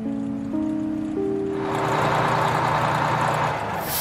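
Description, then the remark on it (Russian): A bus engine idles as the bus arrives at the end of an excursion ride, with a steady low droning hum, then a loud rushing hiss swells up and holds over the rumble for the remaining seconds. No one speaks. “Выходим из автобуса.”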